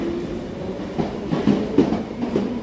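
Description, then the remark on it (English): An underground train rumbles steadily along the rails, with a few irregular clacks from the wheels over track joints. The sound is moderately loud, with no voices. “This is a District 9 train to you.”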